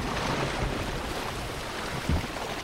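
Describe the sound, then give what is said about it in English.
Water sloshes and churns steadily around a boat that is filling with water, a loud, continuous wash with wind rushing over it and one dull low thump near the end. “Shark's got three barrels on it, and it's just struggling and struggling and struggling, and the boat is just filling with water.”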